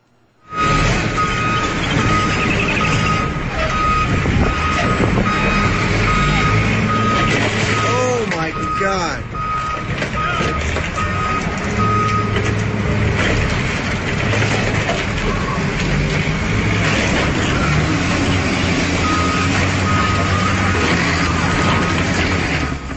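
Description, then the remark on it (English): A city sanitation truck's engine rumbles as it tries to free a snowbound front loader after heavy snow in New York, while a steady reversing beep repeats, with the mechanical grind of heavy vehicles straining outdoors and occasional faint voices. “The New Yorker who shot that video from his apartment window says that was a city sanitation truck trying to free a snowbound front loader.”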